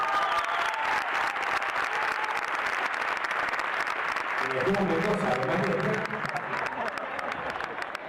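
A crowd applauds steadily for about eight seconds to introduce a member of the group Venezuela de Primera, a dense, loud wash of clapping; partway through, a voice speaks over the applause as it continues without fading.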